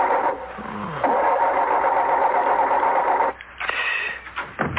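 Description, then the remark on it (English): A car engine drones steadily for a few seconds, then abruptly cuts out and sputters through a few uneven, faltering bursts as the car stalls and breaks down in the middle of nowhere, with no other car in sight. No one speaks. “My car breaks down right where four people...”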